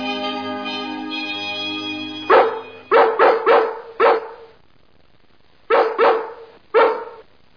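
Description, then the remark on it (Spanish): A steady tonal hum gives way to a series of sharp barks from dogs of London barking in a nightly chain, first in a quick cluster of four or five, then two more after a pause, loud with no talking. “El aullido nocturno, pero queridos, eso no es más que chismorreo en cadena”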